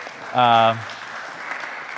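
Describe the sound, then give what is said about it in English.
An audience claps in a steady, diffuse patter that carries on throughout, fairly soft, briefly overlaid by a short, loud buzzing tone near the start. “A little round of applause to yourselves.”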